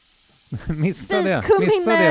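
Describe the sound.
Cumin sizzles in a hot frying pan, a steady crackling hiss that starts alone and then carries on under a person talking.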